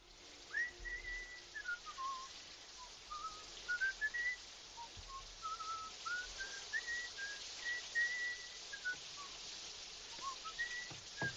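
A man whistles a melodic tune, the notes rising and falling in a steady, flowing line against a faint hiss of background noise, with no talking.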